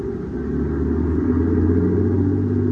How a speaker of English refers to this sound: And in the prison yard, a large tarpaulin-covered supply truck moves out as the heavy gates open.